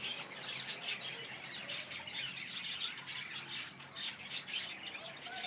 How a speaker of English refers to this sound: I'm standing in a caged aviary kind of place, and at the moment they look like lots and lots of zebra finches and budgerigars.